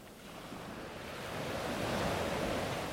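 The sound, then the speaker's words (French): Steady surf washes onto a sandy beach on a sunny, hot day, a broad rushing roar of waves that swells slightly louder midway and stays continuous throughout, with no voices present. “Et les vagues bougent.”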